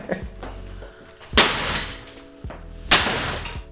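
Two sharp smashes of drinking glasses during a destruction therapy session, about a second and a half apart, each a loud bright crash followed by a tinkling, scattering shatter of shards that fades out.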